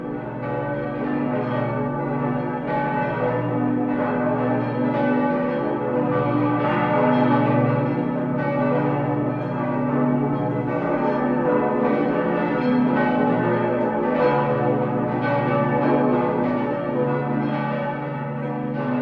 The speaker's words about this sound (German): Die drei größeren Glocken sind an sich die neueren, 16., 17. Jahrhundert. Und diese drei großen Glocken werden noch begleitet von 7 Glocken, die oben hängen, im zweiten Teil des Glockenstuhles.